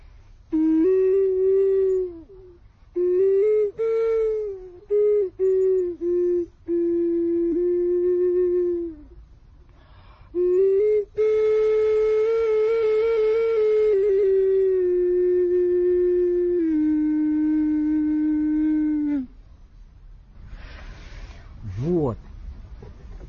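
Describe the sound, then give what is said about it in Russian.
A ceramic cat-shaped ocarina, which accidentally warped in its maker's kiln, plays a slow melody of held, mid-pitched notes in several phrases with short pauses, then goes quiet apart from a brief breathy swoop at the end. “Но вот этот кот, он у мастера в печке потек. Так нечаянно получилось. Поэтому он поет, но в то же время немножко плачет.”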